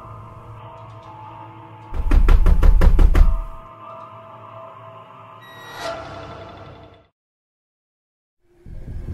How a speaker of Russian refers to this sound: Но не дай бог, оно постучится в вашу дверь.